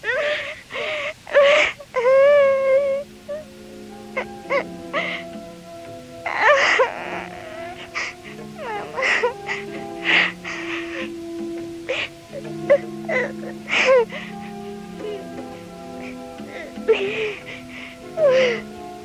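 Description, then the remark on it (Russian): A young girl sobs bitterly, fairly loud, in an empty bathhouse after falling onto a cold bench; her wavering wails break into repeated gasping bursts over nearly twenty seconds, with no talking. “Там, упав на холодную полку, среди запахов сажи и веников она разразилась самым горьким плачем в своей маленькой жизни.”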